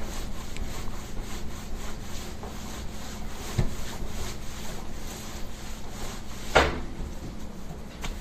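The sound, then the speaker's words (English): Steady, rhythmic scrubbing of a dirty stove surface with a towel and hot soapy water, a continuous rasping back-and-forth with a duller thud partway through and a sharper clack near the end. No one speaks. “I'm cleaning my stove.”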